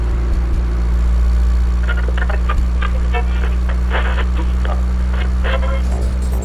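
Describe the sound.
A car engine hums with a steady, low droning rumble throughout, constant, as the car travels along a straight, lonely road on a hot, dry, sunny day, while a voice talks over it intermittently.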